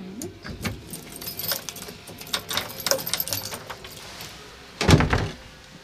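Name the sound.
keys jangling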